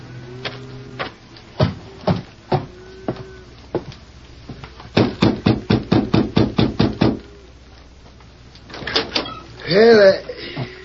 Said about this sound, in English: It doesn't seem to be here in the yard, Victor. I'll have to knock on a door.